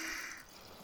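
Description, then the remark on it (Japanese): Carbonated water fizzing with a soft, bright crackling hiss that is strongest at first and then gradually eases, with no voices. “今日のお耳開会はじゃじゃーん、炭酸水、こちらを使用します。”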